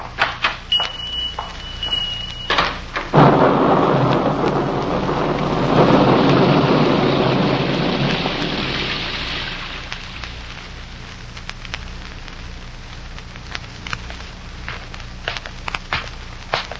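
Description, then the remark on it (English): A loud, rolling crack of thunder swells and rumbles for several seconds over steady heavy rain, then fades, leaving rain pattering with scattered sharp drips and splashes. “By the time I got home, the storm outside had stopped”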